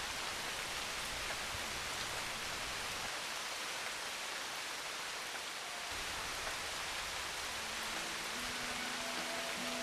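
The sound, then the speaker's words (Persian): Steady rain falls in a dense, constant hiss, fairly loud, with no voices and a faint low hum appearing near the end. “اندک اندک رفته رفته ابرها گشتند چیره، آسمان گردید تیره، بسته شد رخساره خورشید رخشان، ریخت باران، ریخت باران.”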